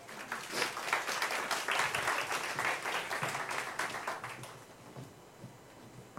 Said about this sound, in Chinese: 拍手欢迎他们来啊！感谢主，有几位哈。